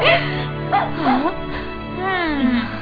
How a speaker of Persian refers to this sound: یه دقیقه صبر کنیم. این سگ شیطون همه غذا رو خورد. کوچولو برو خونه.